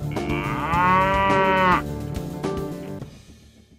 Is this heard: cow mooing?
yes